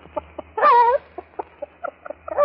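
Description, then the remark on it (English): A person imitates a hen laying an egg: a loud, drawn-out squawk, then a steady run of short, rhythmic clucks. “Now, would you like to hear a little hen laying an egg?”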